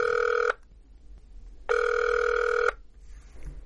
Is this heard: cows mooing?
no